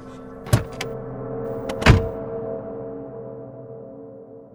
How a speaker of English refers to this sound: That's when I heard the car pull up behind me.